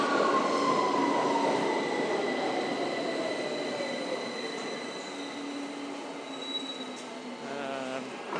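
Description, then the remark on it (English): A subway train pulls into the platform with a loud, steady rumble, its whining motor tones sliding downward as it slows, and thin high-pitched wheel squeals running over the top. “Nice, quick connection there.”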